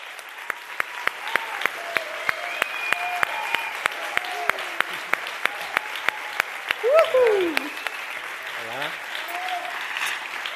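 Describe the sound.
A crowd applauds steadily, with clapping that settles into a rhythmic beat, while excited voices call out and cheer over it. Loud and close throughout.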